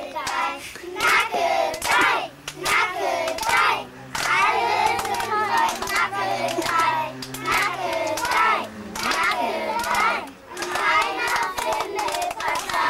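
A group of children at a 1997 school enrollment ceremony, standing at a little fence, sings a lively song together, with steady rhythmic hand clapping running throughout at a loud, continuous level.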